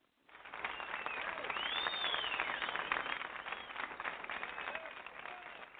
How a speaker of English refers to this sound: Oh, don't we love it? Don't we love waking up another day and hearing that great applause? I love it.